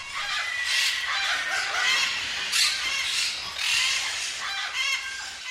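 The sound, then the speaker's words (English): A dense chorus of about 350 to 400 rescued parrots squawking and screeching at once inside an abandoned chicken farm building, 40 feet wide by 400 feet long, loud and continuous with overlapping harsh calls surging in waves, no voices talking. “Well, we only have about 350 to 400 parrots there now.”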